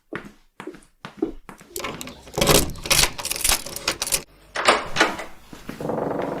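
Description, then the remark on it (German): Room keys jangle in a few quick metallic bursts, with light clinks and rattles as they are passed between hands. No voices. “Hier sind die Schlüssel.”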